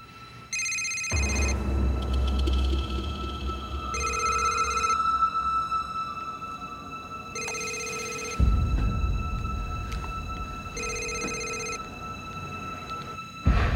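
A telephone rings four times in evenly spaced, bright electronic bursts, fairly loud, with a low rumbling background noise underneath and no one speaking.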